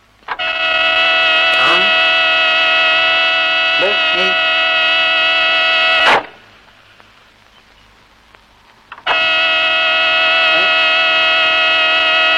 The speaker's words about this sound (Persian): من فکر میکنم حتما بوق با در رابطه داره. خب که چی؟ منظورم اینه که بوق یه چیزیش میشه.